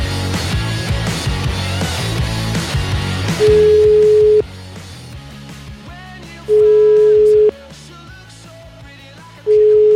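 A song plays as phone ringback music on a call to a lawyer in Verona, a little muffled like over a line, while a steady ringing tone cuts in three times at regular intervals over it.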